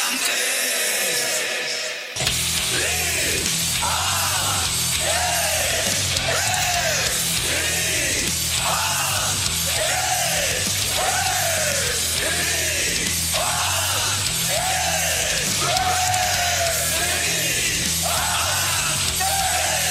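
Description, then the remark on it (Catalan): The anthem of the Liantes Metaleros association, a loud heavy metal song, kicks in after a brief quiet moment, with shouted, bellowing vocals in repeated rising-and-falling phrases over a dense wall of distorted guitars and steady drums. “També, abans de començar l'entrevista, m'estàveu parlant de que la vostra associació té un himne.”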